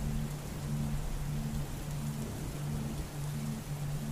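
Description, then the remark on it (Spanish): Steady, dense rain from a summer thunderstorm pours down in a continuous hiss, with a low rumbling undertone pulsing softly beneath it. No voices, just the unbroken wash of a heavy downpour. “A la mayoría de las personas les gusta observar una tormenta de verano y la viven en forma plena, disfrutándola.”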